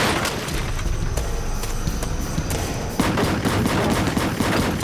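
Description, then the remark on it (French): Rapid submachine gun fire from a Mach 11 assault weapon crackles in a dense, continuous volley for several seconds, loud, with sharp overlapping shots and a brief jump in intensity midway. “Il y eut de nombreux coups de feu dans l'air.”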